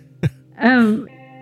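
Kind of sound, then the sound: human body sound, coughing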